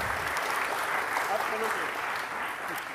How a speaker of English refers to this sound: So we have wonderful translators. I think we should give an applause. You're wonderful.